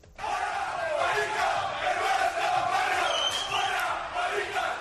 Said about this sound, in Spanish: Protestas que no se ajustan al motivo de la convocatoria, gritos y cánticos que ensalzan el terrorismo